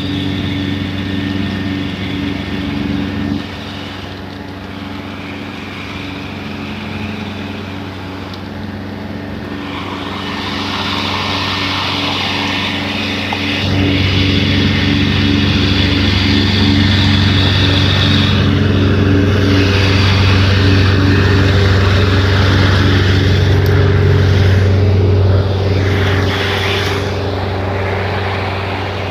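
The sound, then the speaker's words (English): A large ride-on lawnmower's engine drones steadily as a park worker mows a park, its rumbling hum swelling louder about halfway through as it creeps past at about half a mile an hour, with no talking. “I got to walk by this this big lawnmower. It's the park guy mowing the park.”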